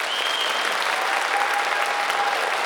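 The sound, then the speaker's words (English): A loud, steady wash of rambunctious crowd applause and cheering, played as a background sound effect, fills the whole clip, dense clapping with a couple of faint sustained whistles riding on top, and no one speaking. “Cue rambunctious cheering in the background.”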